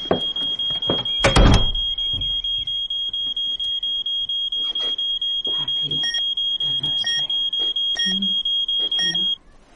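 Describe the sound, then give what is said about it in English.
A house burglar alarm next to a coat stand whines with a loud, steady high-pitched tone while short electronic beeps chirp repeatedly, like keypad presses, as it is turned off within 30 seconds. A heavy thump comes early, and the alarm cuts off abruptly near the end. “I'm sorry, I've only got 30 seconds to turn the alarm off.”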